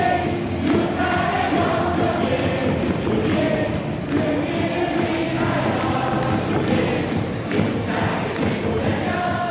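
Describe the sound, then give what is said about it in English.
A dense crowd at a KBO baseball game roars steadily, with many voices cheering and chanting together and a few dull thumps under the din, loud and continuous throughout without any break. “people watching on ESPN right now in the U.S., they're really missing out on the fan atmosphere in the KBO”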